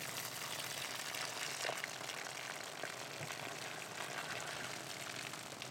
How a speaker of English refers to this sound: This kind of sacrifice, the only person who's worthy of it is God. And he pours this water out.